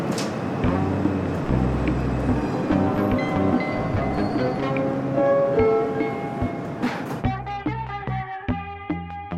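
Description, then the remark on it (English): A subway train rumbles along with a loud, steady roar and rattling for about seven seconds, then music abruptly takes over with clear, evenly plucked notes. “It is Friday, January 28th, 2022, and I'm about to get on the subway for the first time in 2 years.”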